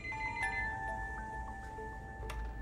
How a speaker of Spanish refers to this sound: Pero en ese momento el teléfono sonó.